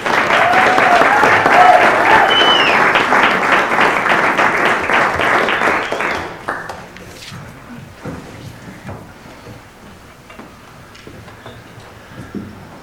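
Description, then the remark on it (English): Loud, dense applause from an audience welcoming two performers fills the first six seconds, then quickly thins to a few scattered claps and light rustling that continue quietly to the end. “They were going to introduce themselves, but since they didn't, would you please welcome with more than that applause, some more applause,”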